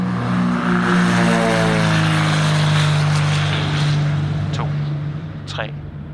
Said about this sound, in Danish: Og der har han så for sidste gang kontakt med kontroltårnet, som giver ham lov til at lette, og det gør han så. Flyet suser ud af landingsbane nummer 36 og letter uden besvær.